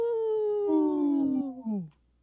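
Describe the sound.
A person howls like a wolf on the Native Roots Radio show, in a segment supported by Howling for Wolves: one sustained, loud, tonal cry that slides gradually downward in pitch over about two seconds, then breaks off, with no other sounds around it.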